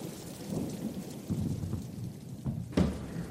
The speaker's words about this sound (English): We better hurry because it's lashing. And believe it or not, it's the first day that it's been raining since we came down.